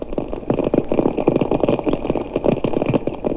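American snapping shrimp crackle underwater, their claw clicks packed into a dense, continuous sizzle of sharp pops with no pauses, steady and fairly loud throughout.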